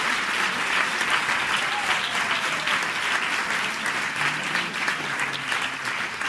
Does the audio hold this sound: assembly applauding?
yes